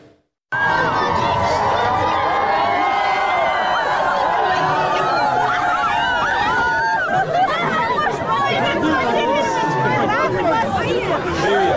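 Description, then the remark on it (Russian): A large crowd in a city street in Derbent, gathered around Vladimir Putin, fills the air with dense, overlapping chatter, with no single voice standing out. The loud, steady hubbub starts abruptly and holds unbroken for about eleven seconds. “вдруг рванул в город Дербент и совершенно неожиданно пошел там в большую, вполне себе микробную толпу.”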